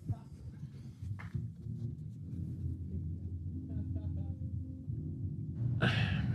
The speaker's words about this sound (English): Are you coughing like as a joke or were you genuinely coughing? No, I was genuinely coughing. I'm sorry.